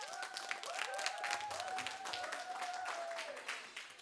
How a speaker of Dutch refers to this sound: Laat je horen. Het team dat eens is met de stelling. Geef jezelf even alvast een groot applaus.